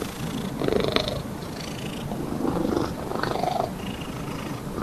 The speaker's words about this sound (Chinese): 除了喵喵叫，猫咪也可能会发出呼噜声。